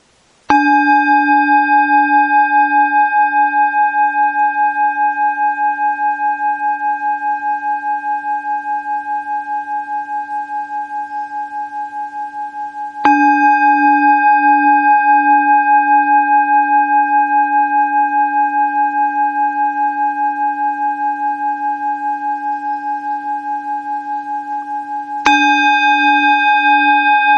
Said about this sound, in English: Okay, so let's start by paying full attention to the sound of the bell.